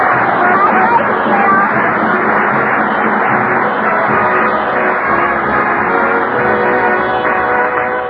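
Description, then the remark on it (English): A studio audience applauds loudly and steadily for about eight seconds, a dense, continuous wash of clapping with a muffled, band-limited quality and no voices standing out. “Applaud loud. The baby's listening in.”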